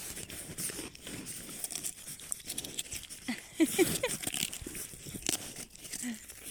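Rams gnawing and chewing feed: a steady, irregular stream of crunching, crinkling and tearing sounds at moderate volume, with a brief grunt-like sound near the middle and no talking.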